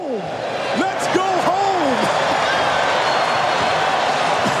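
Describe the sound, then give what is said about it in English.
A loud, steady roar from an arena crowd cheering after Vince Carter's reverse 360-degree dunk, a dense wash of voices that holds for several seconds, with a few brief rising shouts early on. “The crowd goes nuts, and Carter is just strutting around and puffing out his chest.”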